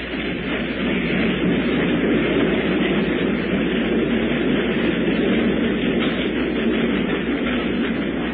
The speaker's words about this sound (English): Oh, that train is going off and leaving us set right here,